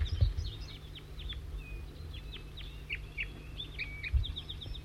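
bird, wild birds chittering

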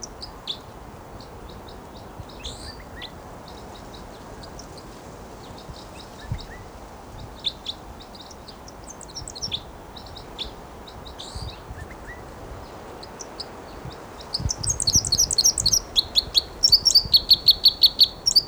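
bird, wild bird flight song

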